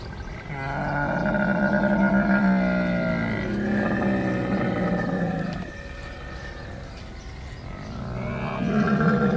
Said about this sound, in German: Kleiner Tipp, die Tiere gibt es relativ am Anfang bei uns im Tierpark. Ach, Kamel, ja. Richtig.